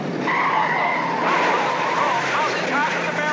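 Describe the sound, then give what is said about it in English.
A racing car skids with a loud, sustained tire squeal over a roaring engine near the end of a race, the screech wavering in pitch for a few seconds, with voices mixed into the noisy background. “Nearing the end of the race, only six cars left, and now only five with that caddy green one in the intersection there.”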